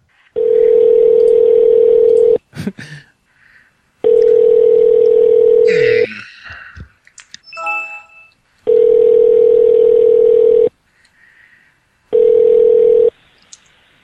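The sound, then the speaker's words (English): A phone rings with no answer: four long, steady ringback tones, each about two seconds, separated by pauses, with faint clicks and handling noise between them and no voice picking up. “He never fucking answers.”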